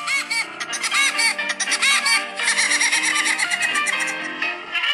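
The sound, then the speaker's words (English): A cartoon woodpecker's signature laugh from an American cartoon: a loud, high-pitched, rapid staccato cackle with a whinnying quality, repeating continuously with no talking. “I've done some digging and I have found Woody Woodpecker. Here he is.”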